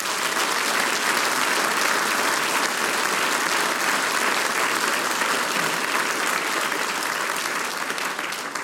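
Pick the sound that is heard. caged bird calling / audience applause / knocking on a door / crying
audience applause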